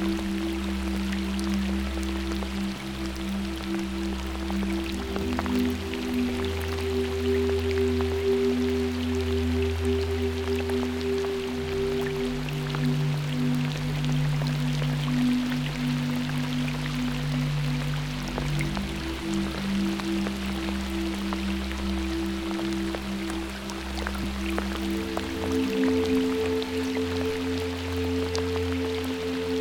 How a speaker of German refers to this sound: Regen tut dir so gut. Du spürst, wie der Regen tief in dich hineinfließt und dir immer mehr Kraft und Energie gibt.